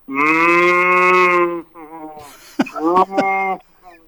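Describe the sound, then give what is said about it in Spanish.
A person imitates a cow with a long, loud, drawn-out moo, followed by a few shorter, wobbling moo-like vocal sounds. “el médico me hizo un análisis vaca. ¿Y cómo es el análisis vaca? Y le digo, me miró los estudios y me hizo así.”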